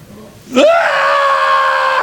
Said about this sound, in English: Demons screaming and whatever goes on down there?